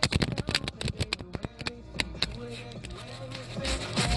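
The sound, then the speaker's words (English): A rapid burst of crisp, papery flicks as a deck of playing cards is shuffled, loud at first and then trailing off into a softer murmur with faint voice-like hum underneath. “All right, so we're gonna shuffle 3 more times.”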